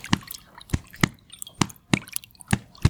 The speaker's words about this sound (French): La surface de l'étang clapote.